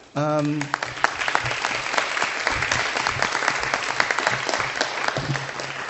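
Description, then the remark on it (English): A room full of people claps steadily for a guest speaker who came from Trenton, a dense, sustained patter of applause lasting several seconds, with a brief voice at the very start before the clapping takes over. “Can we give another round of applause, please?”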